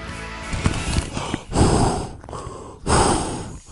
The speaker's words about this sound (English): I'm breathing into a bag because I'm feeling dizzy after this week.